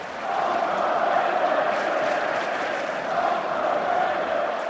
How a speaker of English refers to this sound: Overrated, overrated, roared the crowd. Chris Bosh and his teammates must have felt as if their few fans in Boston had stayed home.